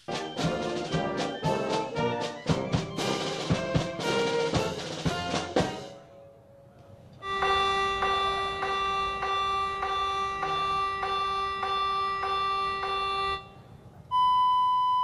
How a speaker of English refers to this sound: As they go through testing all of the ship's alarms, spinning up the radar, that Spy 6 radar that's super advanced.